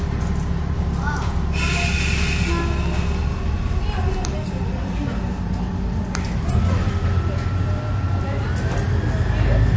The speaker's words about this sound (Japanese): 足元にお気をつけください。整理券をお取りください。この列車は西越行きです。